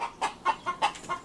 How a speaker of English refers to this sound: That is the sound of some very disturbed chickens.